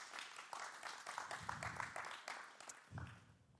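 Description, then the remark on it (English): A crowd of people claps for God together, a dense, sustained patter of applause lasting a few seconds, fairly soft, with no one speaking over it. “And I wonder if right now we could give God a clap, because that is brilliant.”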